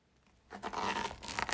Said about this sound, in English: Yeah, the zipper.